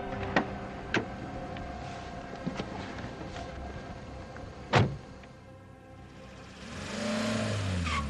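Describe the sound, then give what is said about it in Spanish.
A car engine hums steadily as the car turns onto a winding private road leading to a country house, swelling louder near the end, with a few sharp clicks and knocks early on and no voices. “Cuando al fin el coche se introdujo en el caminito privado y lleno de curvas que conducía a la casa de campo de Marta, iba exactamente de acuerdo con el horario previsto.”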